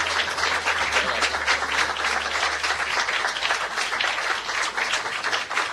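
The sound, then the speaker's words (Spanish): Loud, sustained audience applause for Cacho Fontana and Héctor Larrea at a Radio Nacional event, filling the whole clip, a dense crackle of many hands clapping at a steady level without pause, with no voices standing out. “Ahora sí pido el aplauso más fuerte para Cacho Fontana y Héctor Larrea.”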